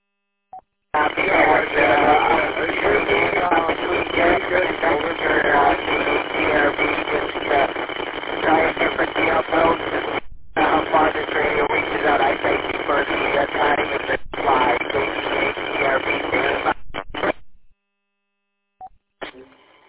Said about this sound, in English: I heard ERV and the rest of it was kind of low audio and static